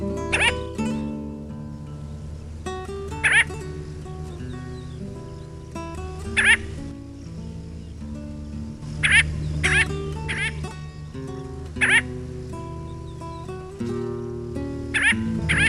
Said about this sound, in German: Das war die Lachseeschwalbe.